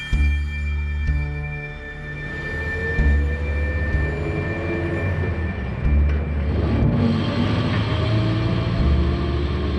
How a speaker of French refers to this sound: Le bus longe la mer Noire, puis remonte vers la steppe et le piémont du Grand Caucase. Il quitte les banlieues de Sotchi par les forêts de Mamaïka, parcourt en 10 heures les 300 km qui séparent la station balnéaire de Maïkop